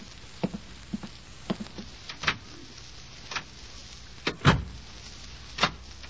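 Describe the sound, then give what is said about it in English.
A hospital door at Walter Reed Hospital is shut and locked: a scattered series of sharp mechanical clicks and clacks, with one heavier, deeper thud near the end and a final click after it. No voices. “The door will be locked.”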